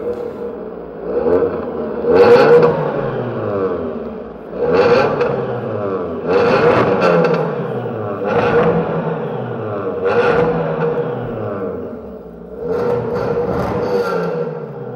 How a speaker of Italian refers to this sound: modificate, per cui hai tutte queste persone che provano le marmitte, queste macchine che accelerano, e a me interessava molto come azione completamente inutile